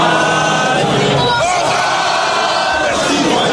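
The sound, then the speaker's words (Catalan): A loud, dense crowd of about 50,000 fans cheers and chants continuously at the Place de la Concorde in the evening, welcoming the team's players with long applause, chants and the Marseillaise, many voices blending into a steady roar with rising shouts and whoops throughout. “L'afició els va rebre ahir al vespre amb llargs aplaudiments, càntics i la Marsellesa.”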